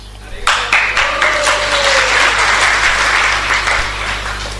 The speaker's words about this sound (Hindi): फिर तालियां बजाओ।